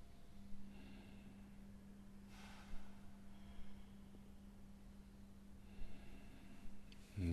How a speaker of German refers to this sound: Atmen zwei, dreimal bewusst, ganz tief ein und aus.